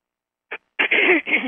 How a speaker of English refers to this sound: See, I'm starting to clear. Starting to clear a lot of stuff. Because our expression is connected with our speech, our throat chakra. So if you're finding your throat, like I'm finding mine, clearing stuff, clear your throat and let it clear.